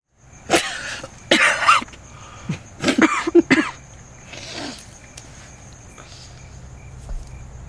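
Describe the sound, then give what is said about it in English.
A burst of harsh, hacking coughs from someone inhaling a first cigarette outdoors, several rapid bursts in the first few seconds, followed by quieter breathing while insects chirp steadily in the background. “Lit wrong, not inhaling, then inhaling and coughing, and then the very unbelievable tiny, I like it.”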